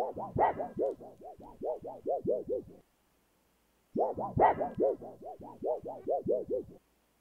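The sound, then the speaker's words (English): A flexible board, recorded as a sound sample, wobbles with a rapid, pulsing warble: two separate bursts of about a dozen quick throbs each, fairly loud, with a short silence between them. “Okay, and then we've got a board wobbling.”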